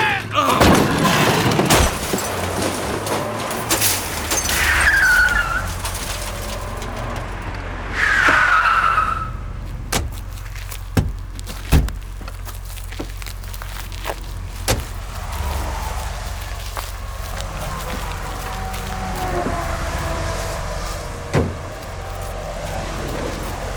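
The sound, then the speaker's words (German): Sharp bangs of shots fired at a Buick's tires and its roaring engine give way to squealing tire skids, then a series of heavy crunching impacts as the Buick overturns, settling into scattered clanks and a low rumble. “Sauberer Schuss auf die Räder, Ivan. Ja, danke. Das war ein heftiger Überschlag für so einen wabbligen Buick.”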